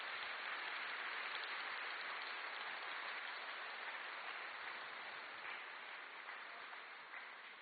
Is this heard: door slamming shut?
no